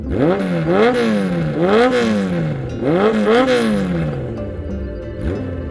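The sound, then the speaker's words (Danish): A motorcycle engine revs up and drops back again and again in quick, rhythmic bursts, loud, with no voices over it. “Men hun er ivrig biker, og har en forkærlighed for Kawasaki motorcykler.”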